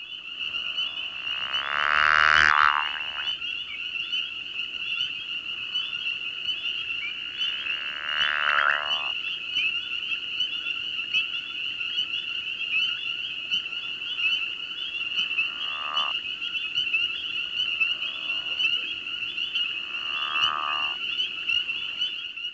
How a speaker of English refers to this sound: Now listen to a different pickerel frog, who gives two gurgling calls as he submerges, followed by muted calls from underwater.